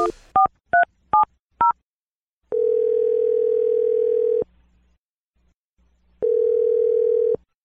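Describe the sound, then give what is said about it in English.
Five quick telephone keypad beeps as someone dials a phone number, then a steady telephone tone sounds twice in long, clear bursts separated by a pause, fairly loud, with no one talking. “I'm going to dial the phone number right gosh.”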